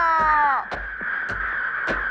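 A sky full of black crows caw loudly, opening with a long drawn-out call and followed by short harsh caws roughly every half second, all over a steady noisy background.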